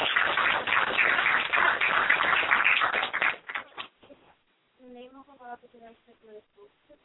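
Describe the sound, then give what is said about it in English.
An audience applauds in a dense, steady burst of clapping for about three seconds, welcoming a young woman to the program, then it tapers off and a person begins speaking. “Please welcome her with a warm round of applause.”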